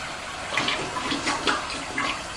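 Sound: toilet flushing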